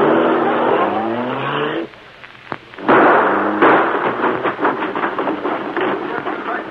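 A car engine revs hard, then a sharp crack and heavy splintering crash as the car smashes straight through a fence at the rear, followed by rattling clatter and continued engine roar.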